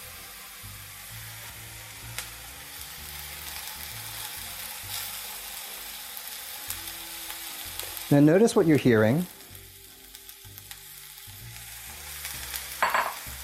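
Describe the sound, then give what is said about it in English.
Mushrooms sizzle steadily in hot oil in a pan, a soft, mellow hiss throughout, with a brief louder clatter and scrape partway through. A voice speaks briefly. “You're hearing a nice sort of mellow sizzle.”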